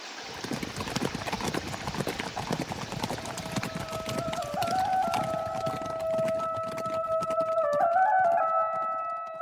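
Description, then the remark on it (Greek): Horse hooves clip-clop steadily in a quick, repeating rhythm as horses are ridden home, while a sustained tonal drone, like music or a siren-like hum, rises in the background during the second half. “Ανέβα και εσύ, Ελισάβετ, στο άλογο σου και φεύγουμε για το σπίτι.”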